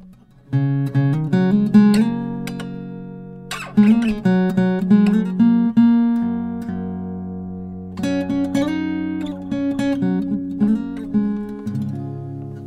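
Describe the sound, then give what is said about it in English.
An acoustic guitar is plucked and strummed in short bursts, strings ringing out and sustaining between attacks, with pitches shifting slightly as if being tuned. No one speaks. “And I need to tune the guitar.”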